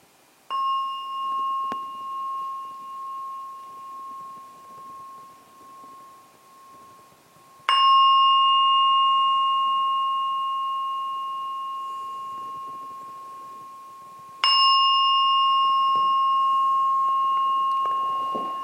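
A meditation gong is struck three times to signal the end of a meditation, about seven seconds apart, each strike ringing out in a clear, sustained metallic tone that slowly fades before the next. No voices are heard.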